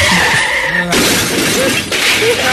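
A car's tires squeal in a skid, then it crashes loudly into a light pole on Hillsborough, with shattering glass and scraping metal, followed by a second burst of debris clattering, all loud with no voices.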